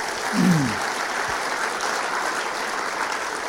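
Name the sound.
audience applause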